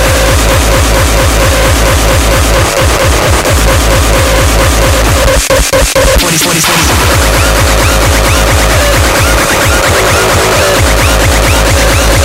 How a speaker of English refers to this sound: Here comes the clap. Military drums.